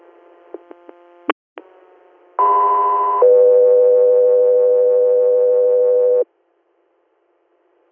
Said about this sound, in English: Guthrie Air, standby for tones.